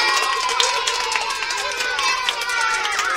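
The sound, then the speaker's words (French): A crowd of animals cheers and applauds their new king, the elephant, steadily, a dense wash of many voices and scattered claps filling the whole few seconds at a fairly loud level. “Tous les animaux, heureux, applaudirent le nouveau roi.”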